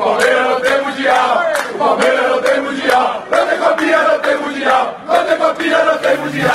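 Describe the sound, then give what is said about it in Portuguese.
A large crowd of Flamengo football fans chants a taunting song at Palmeiras fans in unison, "O Palmeiras não tem mundial", loud and rhythmic, with voices rising and falling together in a repeated mocking melody. “Não foi só torcida não”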